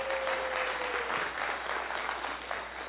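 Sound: audience applauding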